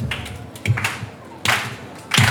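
Loud, slow hand clapping from half of a group, deliberately hard and slow as instructed, a few sharp claps spaced well apart, with the strongest ones landing roughly every three quarters of a second.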